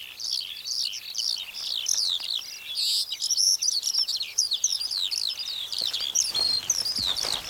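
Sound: birds chirping and singing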